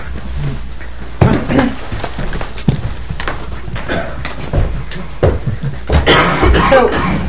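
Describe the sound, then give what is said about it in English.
A man coughs several times at irregular intervals during a meditation and prayer session, harsh bursts with a steady background hiss and some faint rustling between them. “I'm wondering if he could use some cough syrup.”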